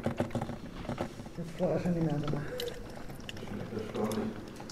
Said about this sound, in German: Nach etwa einer Stunde Fingerspitzenarbeit plätschert wieder heißes Wasser in die Glaskanne von Susannes Kaffeemaschine.